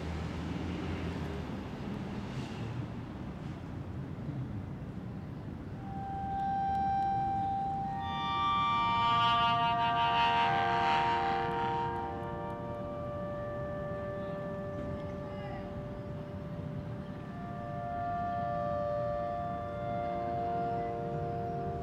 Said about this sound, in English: Beautiful. Have you ever heard of a glass harmonica? Yes. It's a cylinder. It sounds something like that.